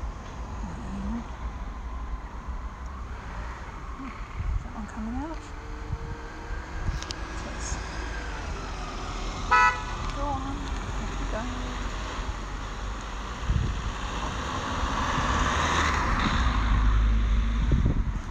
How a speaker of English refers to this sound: Oh, it's busy, this road. Not usually this busy, goodness. And another one.